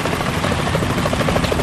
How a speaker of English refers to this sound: The chopper. What? We're not the only ones after Metal Gear tonight. Is that a chopper I just heard? Affirmative.